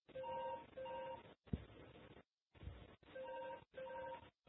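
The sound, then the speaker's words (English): A phone beeps in repeated tonal bursts, steady paired tones pulsing on and off, with a couple of brief thumps in between before the ringing cuts off. “Oh, I killed that phone.”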